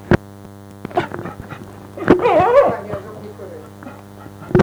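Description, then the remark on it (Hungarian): An excited dog, hoping for a walk after seeing shoes put on, runs around and jumps at people's feet, giving a few sharp yips and a whining, yelping bark burst, with faint soft voices in between and a steady electrical hum underneath. “Ha látja, hogy cipőt veszünk, és azt reméli, hogy elvisszük sétálni, akkor elkezd körbe futkosni, mint a bolond, ugrál a lábunk körül, és ugat hozzá.”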